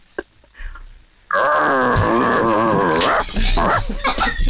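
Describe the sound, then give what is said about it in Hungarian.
A person imitates a dog's growl: after a quiet second, a loud, sustained, rumbling snarl kicks in and holds for about three seconds, then a shorter growling burst follows. “Még egy kicsit morogsz, …? Tudsz egy kicsit morogni?”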